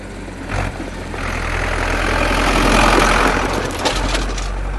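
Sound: car engine idling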